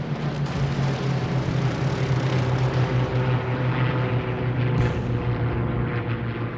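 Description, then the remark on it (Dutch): German propeller aircraft drone steadily overhead above The Hague, Netherlands, around 3 a.m., a loud continuous engine roar with a low humming throb that stays constant throughout, with no voices present. “Rond de klok van 3 uur in de ochtend zijn de eerste Duitse vliegtuigen boven Den Haag te zien.”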